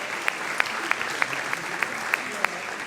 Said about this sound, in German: So, und jetzt hat das nicht so gut geklappt, deswegen müsst ihr jetzt noch einmal klatschen für die Menschen, die ich am Anfang zusammengefasst habe.